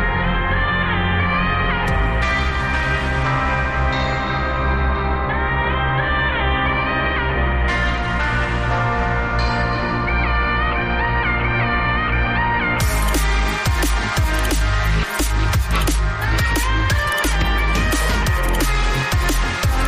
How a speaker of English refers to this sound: Just took those two meows and made it into a club banger.